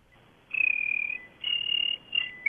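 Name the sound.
person imitating cricket chirping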